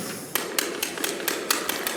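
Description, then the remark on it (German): Special dice rattle as they are shaken one last time in a steady rhythm, about eight sharp clicking knocks over two seconds against a soft hiss, with no voices. “Ein letztes Mal. Schüttel.”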